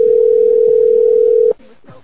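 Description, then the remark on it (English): A phone call to a man who does not pick up rings out with a single long, steady electronic tone lasting over a second, then cuts off abruptly, leaving a faint murmur of voices behind it. “Was he not gonna pick up his phone?”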